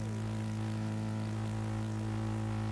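A steady, droning airplane engine with a deep propeller hum, loud and continuous throughout, holding an even pitch with no voices present.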